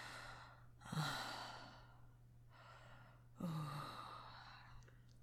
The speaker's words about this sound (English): You're panting so fucking hard.